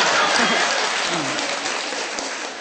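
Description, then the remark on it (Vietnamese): A crowd applauds steadily, a dense wash of many hands clapping at once that holds fairly loud throughout and eases off slightly toward the end, with no talking. “Ở giờ nãy không nghe sao bây giờ mới vô tay.”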